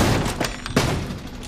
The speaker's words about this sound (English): Ethan's shoulders open the door.